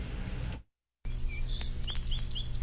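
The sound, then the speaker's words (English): Bird calls on a Friendly Giant children's record by a performer: after a moment of silence, several short, high whistled bird chirps ring out one after another, moderately loud over a steady low background hum. “Once upon a time, not long ago and not far away, we were hiking in the hills and listened to the birds.”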